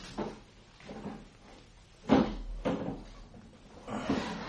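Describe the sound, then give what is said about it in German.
A wardrobe door in a man's room opens, then things inside are shuffled and rummaged through as it is searched, with several knocks and rustling bumps, the loudest thud near the middle. No one speaks. “Schau du meinem Kleiderschrank nach. Ich nehme die Kommode vor.”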